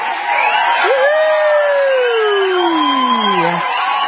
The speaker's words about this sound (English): Congratulations. Do we have some applause for Kate?